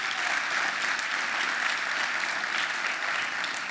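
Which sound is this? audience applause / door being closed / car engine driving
audience applause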